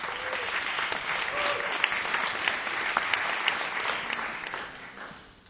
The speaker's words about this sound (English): That was a much more half-hearted clap. I feel like I've abused my privilege, and now I'm learning, I'm having the repercussions.